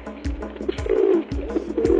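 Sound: pigeon cooing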